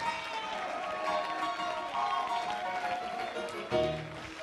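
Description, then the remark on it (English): A church audience claps hands and shouts together in a dense, lively wash of voices and hands, steady throughout, with a louder swell of cheering near the end. “Somebody clap your hands and shout hallelujah.”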